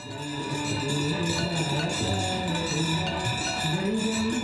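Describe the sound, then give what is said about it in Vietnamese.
At night, Hindu priests ring hand bells and offer lamps during a ritual at the Ganges in Uttar Pradesh, India, before devotees. The bells ring continuously in a dense, shimmering wash, with a low murmur of chanting voices beneath. The sound is steady and fairly loud throughout. “Giữa tiếng tụng kinh miên man, những vị tư tế tay rung chuông, tay dâng đèn, thực hiện một nghi thức trước sự chứng kiến của những tín đồ Hindu mộ đạo.”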